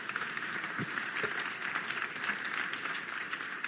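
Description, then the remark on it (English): Steady applause from an audience, a dense wash of many hands clapping at once, sustained and fairly loud for several seconds, given for people coming up to take the stage in the morning. “So, can you, one more time, give a big round of applause to people who are taking your place up here this morning?”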